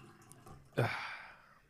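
A short splash of water poured into a glass, starting abruptly with a bright gush and then tapering off over about a second, with no voices.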